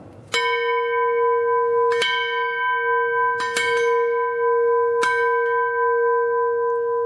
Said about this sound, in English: Is there a chance of getting you, Mr. Lord Mayor, to ring the bell for us? I will ring the bell for you, of course. And we record it for the SBS Why French not? Program.